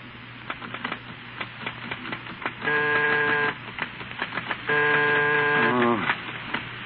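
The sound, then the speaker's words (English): Typewriter keys clack in uneven bursts as a man types a book, broken by two longer ratcheting, whirring stretches like the carriage being worked, all sounding slightly muffled and narrow, as in an old recording. “Steve at his typewriter is trying vainly to concentrate”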